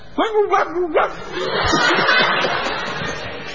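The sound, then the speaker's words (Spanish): A hypnotized person acting as a chicken gives a few quick, yelping squawks that blend barking, quacking and clucking, then gives way to a longer wash of noisy chatter or laughter. “Creo que es como este una cruza. Una cruza entre perro, pato y gallina.”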